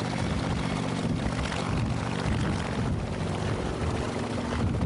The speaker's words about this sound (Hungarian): A helikopter 60-szor szállt fel egy nap alatt, minden fordulóban 600 liternyi permetlevet hintett a főleg cserés tölgyerdőkre.